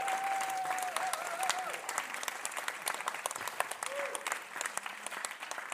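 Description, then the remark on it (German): An audience gives God a round of applause, clapping steadily throughout in a dense, even patter of many hands, with a faint whistle-like tone sliding briefly near the start and again later. “All gegen Gott einen Applaus, das könnten wir jetzt sogar machen.”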